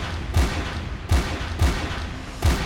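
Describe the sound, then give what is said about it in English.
Five gunshots ring out one after another at uneven intervals, each a sharp, muffled bang with a heavy low thump, heard over a noisy phone line on a recorded emergency call, with no talking. “A few seconds later, you hear five gunshots.”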